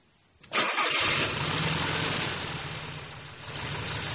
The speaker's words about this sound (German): Ist das ein Volkswagen oder ein Bus, Fräulein Schulz? Das ist kein Bus, Otto. Das ist ein Volkswagen.